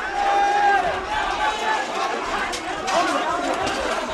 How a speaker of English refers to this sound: Clapping and shouting praise to the Almighty, the rest of the group rushes inside.